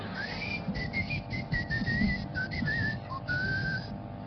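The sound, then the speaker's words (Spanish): A person whistles a thin, high-pitched tone in a series of short, wavering bursts, imitating ringing in the ears, over a steady low rumble of background noise. “Más o menos, y le empieza a chiflar el oído.”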